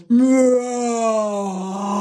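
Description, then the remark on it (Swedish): A voice imitates a cow's moo: one long, low, sustained tone lasting about two seconds, loud at the start and slowly falling slightly in pitch as it drags on. “Jag var liksom, jag lät som ett djur, råmade som en kossa.”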